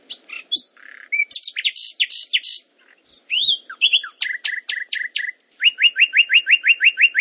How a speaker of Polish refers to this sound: A teraz będzie słowik rdzawy. Kanał lewy, kanał prawy.